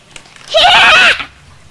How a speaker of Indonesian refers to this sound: Kok kudanya ngambek sih? Kudanya galak. Ada kuda galak.